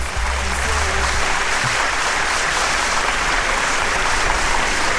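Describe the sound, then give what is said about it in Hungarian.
Sustained applause from a crowd, a dense, steady wash of clapping that stays loud and even for the full five seconds with no voices rising above it. “Bocsánat, most keverem le a tapsot, mert tűni nem akar.”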